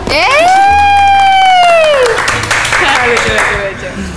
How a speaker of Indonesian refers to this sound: Iya, karena kita kedatangan bintang tamu. Bintang tamu, waduh. Cast dari Nightmare Side, Nightmare the Side, movie. The movie yang baru rilis tanggal 28. Iya, tepuk tangan dulu tuh.